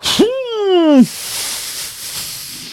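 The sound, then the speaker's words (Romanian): A voice imitates a wolf huffing and blowing at a brick house, trying to blow it down: a short breathy gasp, a drawn-out voiced groan of about a second, then a long, steady, airy blow that fades out. Fairly loud. “A încercat lupul să sufle din nou, dar degeaba!”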